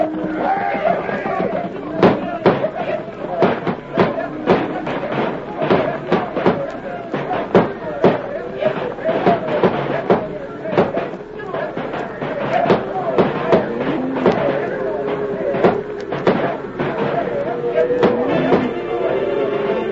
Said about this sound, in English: Fire off your shooting irons. Start them critters to stampeding.